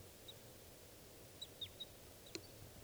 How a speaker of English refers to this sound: That's the bird flying over.